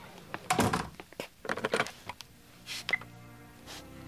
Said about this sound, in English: Could you close the door, please? Oh, right.